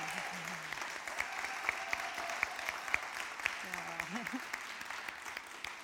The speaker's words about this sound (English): Let's give a round of applause for our tech team. Yay!